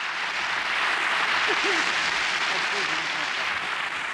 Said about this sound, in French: et en public à Lausanne en 1970. De vrais applaudissements nourris.